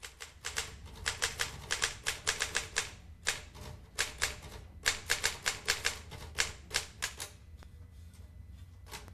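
Rapid, uneven bursts of typewriter keystrokes clatter, with brief pauses between flurries and a low background hum underneath, no voices present, as Morrow types at his desk in an otherwise empty production office.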